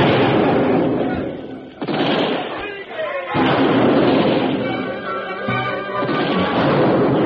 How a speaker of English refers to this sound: Soldiers are opening up with all the cannon. That should defeat those Indians. And mortar fire as well.